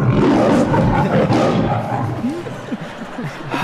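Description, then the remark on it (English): A deep, rough growl rumbles loudly for a second or two, then eases off into a quieter, uneven grumble with a few brief higher vocal tones. “That's a serious growl.”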